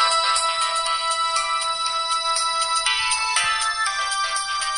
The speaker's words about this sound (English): do you think the sound of this ringtone could help you lose weight? We investigate later.